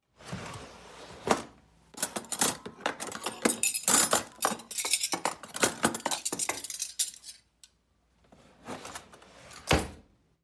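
Metal forks, knives and spoons clink and rattle as they are taken from a drawer to set the breakfast table, with bright jingling bursts clustered in the middle, a short pause, then a few more clatters near the end.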